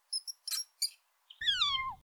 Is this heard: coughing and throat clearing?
no